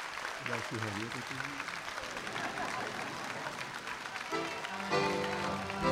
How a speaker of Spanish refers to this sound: La ovación en el Estudio Mayor de Radio Nacional en la presentación en vivo